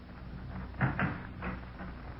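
A door being opened to look outside, with a few short wooden clunks and creaks about half a second apart over a quiet background hum, and no one speaking.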